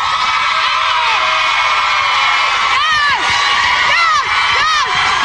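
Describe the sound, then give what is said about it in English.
A loud television studio audience screams and cheers continuously as the host screams about giving away Vaseline, with high-pitched shrieks and whoops rising out of the dense roar several times, sustained at full volume throughout. “She kind of screams about everything, and the audience kind of screams back”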